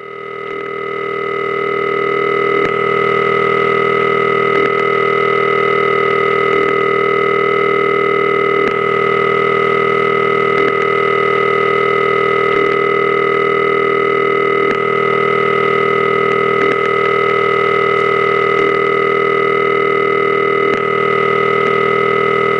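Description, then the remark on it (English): A steady, loud electrical hum from the ringing equipment of a telephone exchange at the Smyrna office, its phases combined into one continuous sound, drones without pause. A faint click breaks it roughly every two seconds as the ringing cycle switches phase. No voices. “all put together into one continuous sound. Every 2 seconds, you can hear it switch from one phase to another.”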